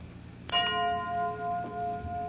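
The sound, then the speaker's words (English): A Bulova Watch Time radio time-signal chime on WJSV, Washington, at 21 minutes past 11 o'clock, strikes once, sharp and bright, then rings on as a steady, clear bell tone over a low hum, with a fainter second strike partway through. No one speaks. “21 minutes past 11 o'clock. BULOVA, Bulova Watch Time.”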